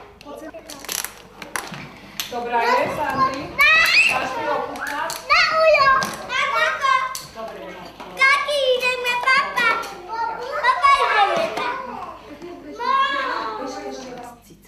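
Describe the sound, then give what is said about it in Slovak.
Young children in a children's home play with toy kitchen items, chattering and babbling while small objects clatter and clink as they handle them, with bursts of high, lively voices throughout. “V tomto prípade sme vychovávateľov požiadali, aby do hry deti nezasahovali.”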